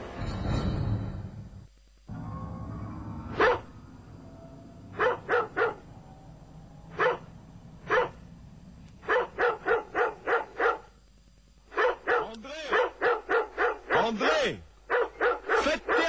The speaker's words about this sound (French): Faites taire le chien dehors, là.